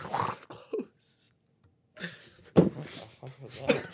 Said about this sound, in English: What the fuck was that? I was sneezing while I said that.